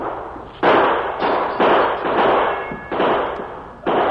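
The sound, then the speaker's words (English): A volley of about six sharp gunshots from two men across the street fires at uneven intervals, each loud crack trailing into a long, rumbling decay that overlaps the next. No voices are heard. “Hey, two hombres across the street throwing lead.”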